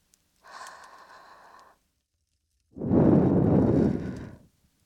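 Two breaths without talk: a light, airy intake, a short pause, then a louder, longer, gentle breath blown out with a soft whooshing rush, given as a finishing touch after ear cleaning.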